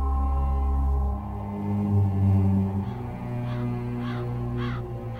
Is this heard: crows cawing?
yes